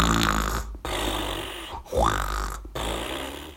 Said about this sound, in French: Des ronflements énormes s'échappaient de l'intérieur de la cabane.